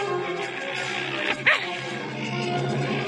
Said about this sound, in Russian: Залаял щенок. Потом вспомнил, как рычал лохматый пес и зарычал.